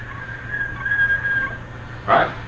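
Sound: kettle whistling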